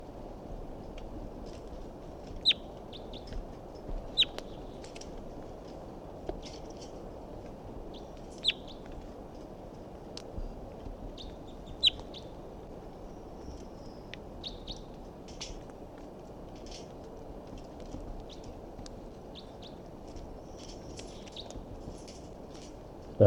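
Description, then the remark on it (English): Short, high-pitched calls of a wild bird up in a big pine tree above a net repeat irregularly over a steady low background hiss, with several sharper calls standing out among fainter twittering. No one speaks. “So recording, this is the vocalizations of a wild bird that's here up in the big pine tree above the net.”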